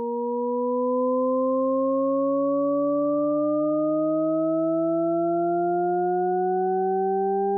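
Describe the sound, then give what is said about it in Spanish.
A smooth, steady set of pure sine tones stacked in octaves, all gliding slowly upward together and seeming to rise endlessly, a Shepard tone illusion heard alone at moderate volume with no talking. “Para que se hagan una mejor idea, un tono de Shepard más puro, o sea, expresado solo en sus frecuencias fundamentales, suena así.”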